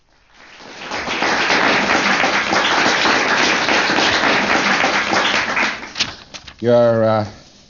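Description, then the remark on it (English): Audience applause at L. Ron Hubbard's lecture of 28 November 1963 swells into a dense, steady patter of many hands clapping for about five seconds, then thins out and gives way to a brief spoken voice. “Applause is well received.”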